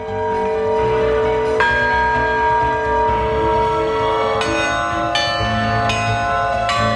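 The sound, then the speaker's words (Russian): Church bells installed in the bell tower of the Sergievskaya church ring out, with repeated overlapping strikes and long, shimmering tones that sustain and blend into a dense, continuous peal with no voices. “нефтехимиков наслаждается не только красотой величественной церкви, но и звоном храмовых компанов, установленных на колокольне.”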